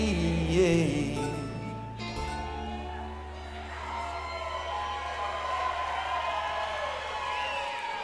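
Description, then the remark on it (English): An audience hoots, whoops and hollers in a steady, noisy wash of cheering, layered over a sustained low musical drone that holds for most of the eight seconds. “Y'all are hooting and hollering because you know what's coming, don't you?”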